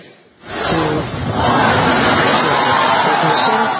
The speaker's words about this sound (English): 27 rocket engines fired at once, sending the Falcon Heavy into space and the SpaceX crew into applause. Well, if you could hear all that cheering, it was an outstanding test flight of the Falcon Heavy.